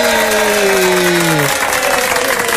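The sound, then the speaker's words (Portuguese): Steady, dense audience applause for Meirelle Chacon, a mother, on the 106 FM radio station, filling the whole stretch, with a sustained tone gliding slightly downward in the first half before fading out beneath the clapping. “Mais aplausos para Meirelle Chacon, mãe, ela merece!”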